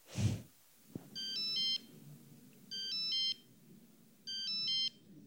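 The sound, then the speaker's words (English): A mobile phone ringtone in an auditorium at the Centre Pompidou plays three identical bursts of bright, high electronic melody, each about half a second long with short pauses between, over a low background murmur, after a brief thump and a click. “Mesdames, messieurs, pour le confort de tous, n'oubliez pas d'éteindre votre portable.”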